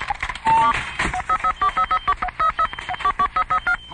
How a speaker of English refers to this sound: if you can hear me, touch the buttons on this phone once for no and twice for yes.